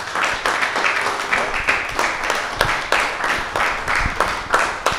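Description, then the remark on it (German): An audience applauds the guest at the end of a talk, a dense wash of overlapping hand claps at fairly even loudness for about five seconds, with a few sharper individual claps standing out. “Danke vielmals zuerst mal fürs Kommen und einen herzlichen Applaus für dich.”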